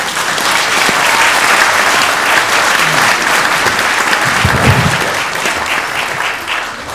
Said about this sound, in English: Another clap for that.